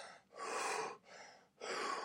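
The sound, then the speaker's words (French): Heavy, out-of-breath panting: three loud, airy breaths in quick succession, rising and falling in a steady rhythm with brief pauses between them. “Il s'essouffle.”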